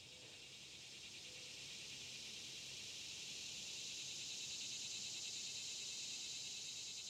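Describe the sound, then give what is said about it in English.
A dense, droning chorus of periodical cicadas of the North American genus Magicicada fills the air, a steady high-pitched buzz with a faint pulsing shimmer that swells slightly louder over several seconds, with no voices present. “The genus Magi Cicada lives in North America alone and consists of 7 species that are broken into 2 types.”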